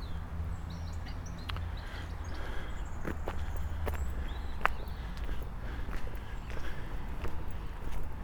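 bird, birds singing in spring

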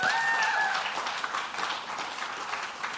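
crowd, audience clapping

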